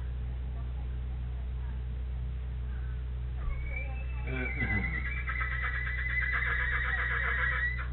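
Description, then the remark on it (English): A horse lets out a loud, drawn-out whinny that starts partway through, rising into a shrill, quavering neigh over a steady low hum, ending with a rough shuddering flutter. “I'm telling you, those horses talk, don't they?”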